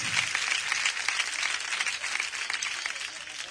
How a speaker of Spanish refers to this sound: Un aplauso a David de Miranda.